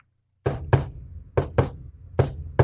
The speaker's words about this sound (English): He asks for the secret knock.